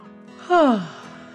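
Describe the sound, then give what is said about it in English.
A single short yawn, its pitch sliding downward over about a third of a second before trailing off into quiet; it sounds like a person imitating a yawn. “The cardboard box yawned”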